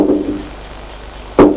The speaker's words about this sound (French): On frappe à la porte.